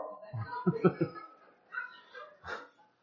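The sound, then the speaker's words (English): A human voice imitates the nervous whimpering of Barton, a dog, each time another dog, Clyde, barks while an alarm rings: a few short, whiny bursts close together, a brief pause, then a couple of thinner, higher whines, fairly quiet. “And every time Clyde would bark, Barton would go.”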